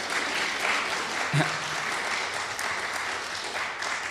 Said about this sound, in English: Yeah, let's give a clap for Ernesta. She's great.